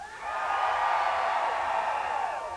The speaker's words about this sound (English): There were legitimately 3 or 4 people screaming. Mostly it was hollering, whooping, hooting, wooing.